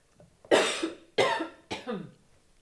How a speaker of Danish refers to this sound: Det er ret interessant, fordi jeg hoster lige nu, men jeg taler også om selvtillid.